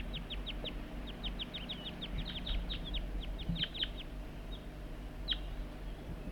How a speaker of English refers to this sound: And that's bird 4-3, and the wild birds are right nearby. I heard the juvenile giving begging calls right near the net site somewhere. The wild birds responding to loud calls of bird 4-3.